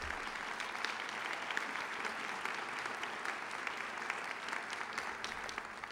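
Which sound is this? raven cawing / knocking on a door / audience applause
audience applause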